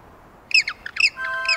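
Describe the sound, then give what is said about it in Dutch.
A burst of squawking calls from a penguin colony, Mr. Penguin's family, several harsh, overlapping honks in quick succession, fairly loud against a low background hiss, with no talking. “Ah, dat was inderdaad het geluid van meneer Pinguïns familie.”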